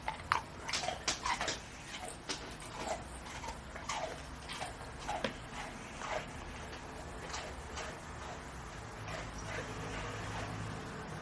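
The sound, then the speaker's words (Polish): A dog named Roki crunches a treat, with a rapid run of sharp crackly bites at first, then slower, softer chewing clicks spread out over several seconds. No one speaks. “Słychać, jak chrupie.”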